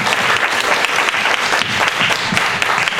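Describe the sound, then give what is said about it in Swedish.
An audience claps warmly and steadily to welcome Sofie and Don Valdo, a dense, loud wash of many hands with no pauses, filling the whole stretch without any voices rising above it. “Och vi hälsar också ikväll Sofie och Don Valdo med ett varma applåd.”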